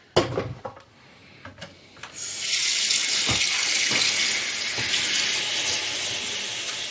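household object, water running

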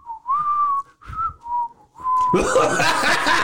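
human body sound, person whistling

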